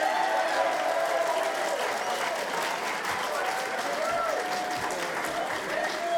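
A crowd at Coaster Mania 2009 claps steadily after dinner, a dense, continuous patter of many hands at a fairly even loudness throughout, with some faint voices and cheers mixed into the applause.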